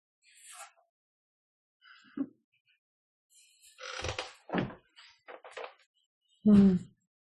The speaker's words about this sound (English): And I'm going to close a door real quick and continue.